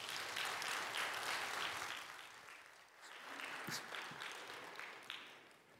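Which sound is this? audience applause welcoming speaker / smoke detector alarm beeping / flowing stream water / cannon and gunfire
audience applause welcoming speaker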